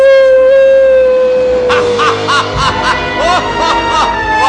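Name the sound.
wolf howling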